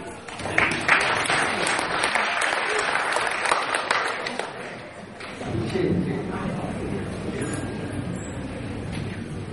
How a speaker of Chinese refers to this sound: 感谢大伙的掌声鼓励。